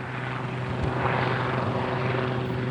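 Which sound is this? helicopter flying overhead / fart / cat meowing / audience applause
helicopter flying overhead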